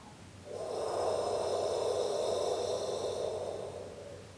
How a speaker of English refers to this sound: We're going to scoop up the earth, this fertile, nutritious soil, and we're going to pour the earth back into ourselves, helping to ground us, exhaling with the sound H-O-H.